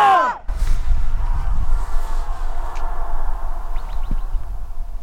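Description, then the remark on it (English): A single loud, drawn-out shout of "Yampa" opens, then rings on as a long smeared echo through Yampa Canyon, where the Yampa River meets the Green River, fading slowly over a steady low rush of water. “So you can count, try to count how many echoes you can hear, okay?”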